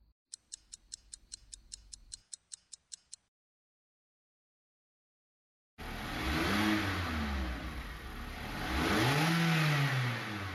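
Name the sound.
car engine accelerating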